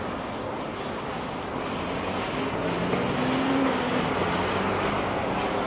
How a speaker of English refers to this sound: oh, here's a bus.